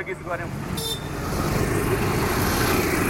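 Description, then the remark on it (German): Dense street traffic of cars and motorbikes rumbles steadily in Kathmandu, Nepal, as people stream back onto the streets after a general strike ends, with engines droning and a brief horn-like toot early on; faint voices mingle in the busy background noise. “Innerhalb weniger Stunden strömen die Menschen wieder auf die Straßen und Kathmandu verwandelt sich in ein lärmendes Chaos aus Autos und Motorrädern.”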